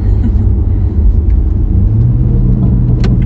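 Car exhaust burbling off the throttle after the accelerator is released, with the car shifted down to second gear, in Mitaka, Japan: a loud, continuous low rumble with an uneven, crackly popping texture running throughout, and no voices.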